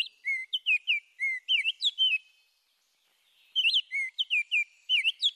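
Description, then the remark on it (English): An oriole sings two bursts of clear, flutey whistled phrases, rising and falling notes in quick succession, separated by a brief silence. The song is loud and alone, with no voices. “The robin's insistent caroling awakens the oriole.”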